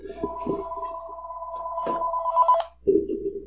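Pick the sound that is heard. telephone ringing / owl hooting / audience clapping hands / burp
telephone ringing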